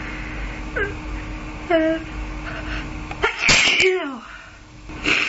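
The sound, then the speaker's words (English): A person sneezes loudly, with a couple of sharp, breathy bursts preceded by rising inhaled gasps, one sneeze following another within a few seconds. “No more sneezes, please.”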